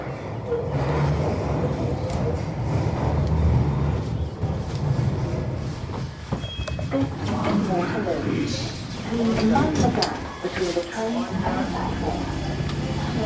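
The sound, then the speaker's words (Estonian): Busy city street in London, England, in spring, with a steady rumble of double-decker buses and traffic, engines droning throughout, while voices murmur and talk intermittently over the noise. “Taustaks on kuulda busside müra.”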